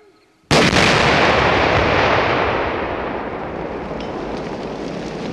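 An olive-drab U.S. anti-tank landmine, shaped like a baseball base, is detonated about 300 feet away in a landmine training demonstration: a sudden, deep boom after a moment of quiet, followed by a long, loud roar and rumbling hiss that fades slowly as dirt falls like rain.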